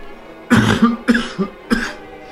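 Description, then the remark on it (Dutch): A sudden fit of coughing: five or so harsh, rough coughs in quick irregular succession, fairly loud, with no talking. “Nou, en ik raak opeens aan de hoest.”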